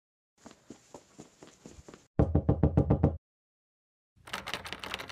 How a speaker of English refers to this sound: it's rude to bang on the door like that.